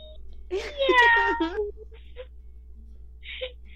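A cat gives one drawn-out, wavering meow, loud, followed by a few faint, brief noises and a short quiet sound near the end.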